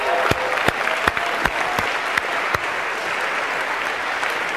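An audience applauds steadily for several seconds, a dense, even wash of clapping with a few sharper individual claps standing out near the front.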